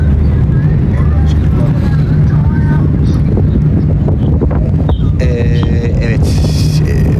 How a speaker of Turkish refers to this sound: Evet arkadaşlar, şu an vapur şeyinde devam ediyoruz. Deniz üzerinde denizden hareket ediyoruz. Şu an hafif hafif yolculuğumuz devam ediyor. Rüzgarlı bir biçimde. Evet, vapurda yavaş yavaş hareket eden bir sürecimiz var.